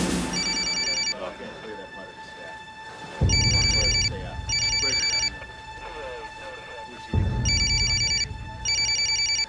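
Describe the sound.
A mobile phone ringtone rings in short, bright electronic bursts, repeating in pairs several times, fairly loud over a low rumbling background with faint voices underneath.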